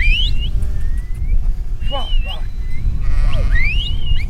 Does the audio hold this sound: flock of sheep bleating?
yes